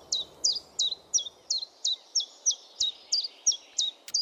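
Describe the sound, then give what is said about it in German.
A common chiffchaff sings a steady series of about twelve high, sharp two-note chips at an even pace, clear over a faint background hush. “Das ist nämlich einer, der seinen Namen ruft.”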